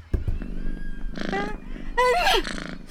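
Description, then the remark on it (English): A brown stray cat named Bruno Mars meows twice at close range, two loud, drawn-out calls with bending pitch about a second apart, over a low background rumble. “That cat is so close.”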